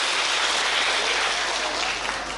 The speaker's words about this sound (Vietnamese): Cho một tràng pháo tay rất lớn. Các bạn có nhớ điện thoại không? Có ạ. Cho tràng pháo tay luôn, nhớ luôn.